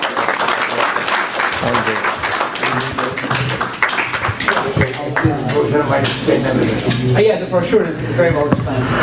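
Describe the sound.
A crowd applauds with dense, steady clapping that stays loud throughout, with a murmur of voices mixed in beneath the claps.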